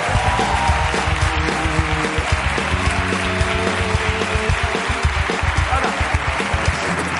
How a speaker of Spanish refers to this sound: Un aplauso para Adriana Ugarte, hoy en la Resistencia.